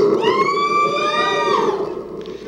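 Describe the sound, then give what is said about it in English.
A crowd lets out a loud, sustained scream from or for Latvia that holds steady for about a second and a half before tapering off into a fading, noisy murmur. “I want to hear a scream from or for Latvia.”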